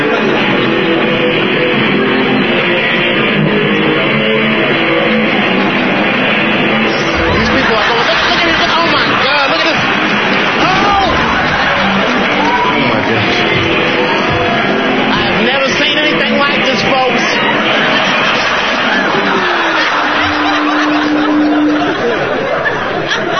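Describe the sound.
Dense, steady hubbub of a business lunchtime crowd chattering at once in a chic Manhattan restaurant, many overlapping voices with occasional chuckles and a brief tonal whine near the end.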